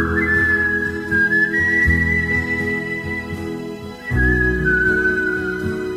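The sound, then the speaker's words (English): A clear, sustained whistled melody glides over a full band backing with steady drums and bass, the tune pausing briefly near the end before resuming. “These are the top 10 whistling songs of all time.”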